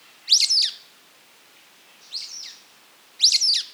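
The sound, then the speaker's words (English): Three shrill, squeaky calls of sulphur-bellied flycatchers ring out one at a time, the middle call softer than the other two, with quiet pauses between them and no voices. “Listen for the squeaky calls of the sulfur-bellied flycatchers.”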